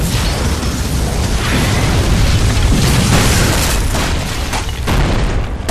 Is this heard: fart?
no